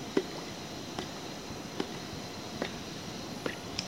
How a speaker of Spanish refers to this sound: Porque una botellita estaba sacando el agua.